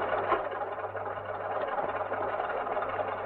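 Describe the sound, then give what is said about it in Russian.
A car engine idles with a steady, even rumble and a constant low hum underneath, holding the same level throughout with no voices. “Садись в машину.”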